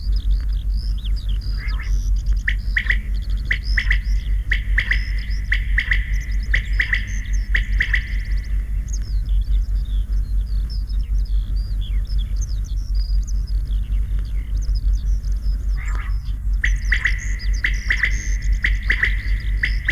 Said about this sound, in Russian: Совсем рядом в поле кричит перепел. Спать пора, спать пора.